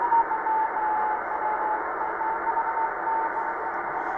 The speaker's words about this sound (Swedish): Där har vi en morsesignal. Men är för svagt. Ja. För mina öron.